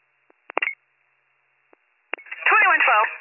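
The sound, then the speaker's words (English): A few short, sharp telephone keypad beeps and clicks from someone playing with the phone, on a thin, band-limited police dispatch radio channel, followed by a burst of muffled, garbled talk. “I don't care who's playing with the phone.”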